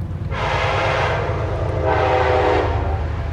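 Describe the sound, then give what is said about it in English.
A train on tracks beside the Hudson River rumbles past steadily while its horn sounds in two long blasts, the second starting after a short gap, loud over the constant low roar of the wheels. “Trains run on tracks on both sides of the river, and there are lots of barges, tankers, and pleasure boats on this busy waterway.”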